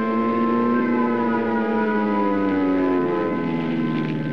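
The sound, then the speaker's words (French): A loud, continuous Stuka dive-bomber siren wails with a rich, buzzing tone as the planes dive on French soldiers on 10 May 1940, holding steady before its pitch slides downward toward the end; no voices are heard. “Ils arrivent avec leurs bombes, leurs mitrailleuses et leurs sirènes, piquant sur ces soldats français”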